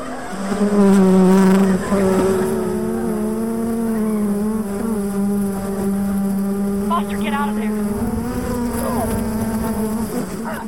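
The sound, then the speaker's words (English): A swarm of killer bees buzzes loudly and continuously, a dense droning hum that wavers slightly in pitch and swells and dips for about ten seconds. “That would be the killer bees.”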